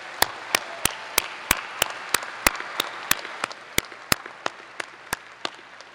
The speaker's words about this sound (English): Graduating students, please join me in giving a round of applause to the family, friends, caregivers, supporters, and mentors who helped you get where you are today.